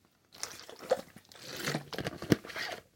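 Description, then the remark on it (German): Quiet sipping and gulping of water: a few wet slurps, a swallow and small clicks over about two seconds, with no talking. “Darauf trinke ich einen Schluck Wasser.”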